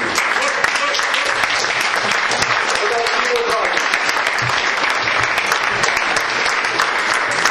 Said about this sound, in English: So let's make them feel welcome. Go, let's give them a big clap. You can do better than that. Let's give them a big clap.